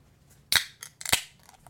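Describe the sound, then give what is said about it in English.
A beer can of Mason Jar Lager Company's Luchador Mexican Lager, a 5% lager, is cracked open: a sharp metallic snap, a short fizzing hiss, then a second crisp pop with faint rustling after. No one speaks. “Yeah, why don't you give that a crack?”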